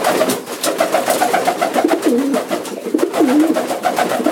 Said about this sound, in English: A lady just called. Never met her. She wants me to get rid of the pigeons in front of her window.